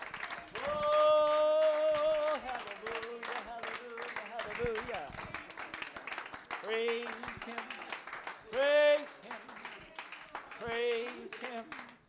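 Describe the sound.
An audience claps their hands together in a steady, sustained round of applause, with voices calling out loudly over the clapping throughout.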